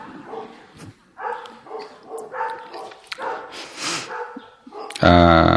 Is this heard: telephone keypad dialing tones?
no